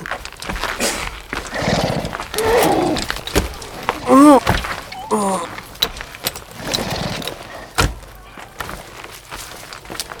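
Horses snort and shuffle, with a loud, wavering neigh rising in the middle and a few hoof clops scattered through the rest.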